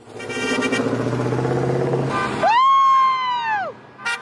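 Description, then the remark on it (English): Engines rumble as some of hundreds of cars slowly drive up and down the main street of Montpelier, Idaho, in late April, with a sustained car horn blaring loudly over the traffic for about a second, then another short honk at the end. “Hundreds of cars slowly driving up and down the town's main street, blaring their horns.”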